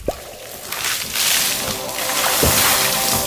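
household object, water splashing

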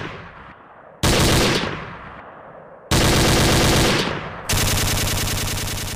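sound effect, gunfire

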